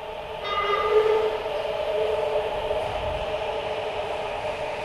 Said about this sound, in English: You get down to the train platform and appreciate the cool wind or breeze or whatever you call the rush of air the train brings before it arrives, before you even see it or its lights, because of how much it cools your sweaty head.